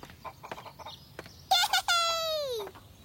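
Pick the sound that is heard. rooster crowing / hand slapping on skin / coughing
rooster crowing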